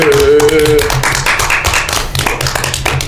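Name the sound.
group applause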